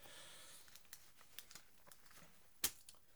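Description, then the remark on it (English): Paper rustles and crinkles in quick, uneven bursts as pages are shuffled while someone searches for a page, with one sharper crackle near the end. The handling sounds fairly quiet, with no voices. “So, going on here, I gotta find my paper again.”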